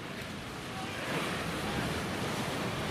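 Continuous roar of ocean surf with waves washing in, with many surfers in the water waiting to catch a wave, a broad steady rush that swells slightly louder partway through, mixed with wind buffeting the microphone.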